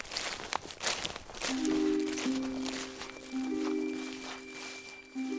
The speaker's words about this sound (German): Der wilde Mann kehrte um, hob ihn auf seine Schultern und ging mit schnellen Schritten in den Wald hinein.